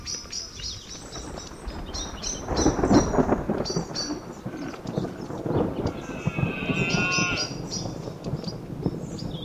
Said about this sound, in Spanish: La berrea del ciervo, los bramidos y testarazos de los machos, con el inseparable sonido de los truenos.